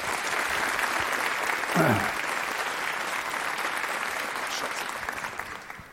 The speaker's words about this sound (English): Please welcome, with a very warm applause,